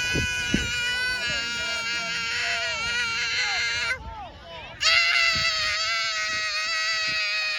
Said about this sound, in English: Because this video, he's just losing his mind. Like legit losing his mind, just screaming as hard as I've ever seen a child scream.